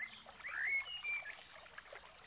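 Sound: birds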